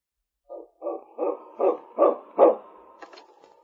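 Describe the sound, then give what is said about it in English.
A dog barks six times in a steady, rising series, each bark loud, followed by a few fainter yips and clicks trailing off. No one speaks. “Preston's going to keep that dog out of here from now on.”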